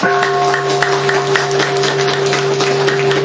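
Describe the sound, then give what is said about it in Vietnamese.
A large audience applauds for the Buddhists who came from Canada, many hands clapping in a dense, steady roar that stays loud throughout, with a faint constant electronic hum running beneath it. “Tôi xin tán thán những Phật tử đến từ Canada, một tràng pháo tay.”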